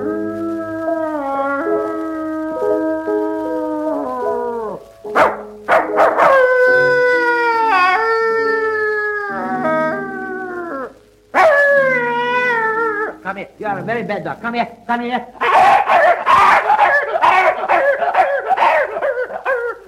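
A dog howls loudly in a series of long, wavering, drawn-out notes separated by brief pauses, ending with a burst of shorter, rougher yelps and whines.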